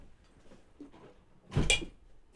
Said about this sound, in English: There's a little bit of background noise here. Someone else just walked in the studio. Mom, will you shut the door, please? Thank you.